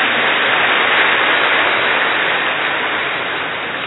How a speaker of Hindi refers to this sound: हाँ, ताली बजाओ अपने लिए।